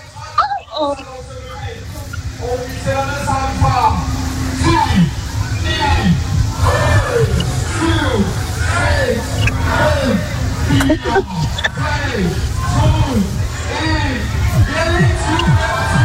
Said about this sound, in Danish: så vil jeg gerne lige spille en lyd for, hvordan det lød, da de væltede hegnet i går her på Jelling Festival. Nu begynder de at sige noget. De tæller ned.